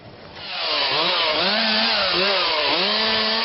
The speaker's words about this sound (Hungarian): Vágják a fákat a megcsúszott pálya mentén, hát ha ezzel is erősíthetik a partfalat.